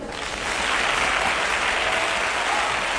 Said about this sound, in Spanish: Nótese que el aplauso es desmedido. Él podría haber aparecido directamente en el escenario, pero no. Apareció desde atrás de la platea para que durante el paseillo la ovación fuera larga y unánime.